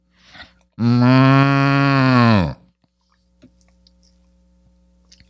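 A single loud, close cow moo lasting nearly two seconds, deep and sustained with a rich harmonic tone that slides down at the end, followed by quiet with a few faint clicks.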